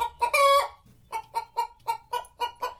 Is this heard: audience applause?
no